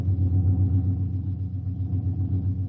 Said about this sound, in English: This ambulance makes pretty good time for a jalopy. Yeah. We should be in Madrid before dark.